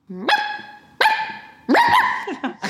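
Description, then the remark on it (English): A person imitates a chihuahua's yappy barking, giving about four or five sharp, high-pitched yaps at an uneven pace, fairly loud, with no other talking. “And a chihuahua dog bark.”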